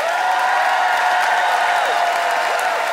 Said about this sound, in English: Okay. Some fearful applause there.